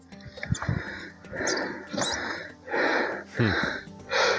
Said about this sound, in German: und man hört den Biologen auch ganz schön keuchen, weil die Luft da so dünn ist.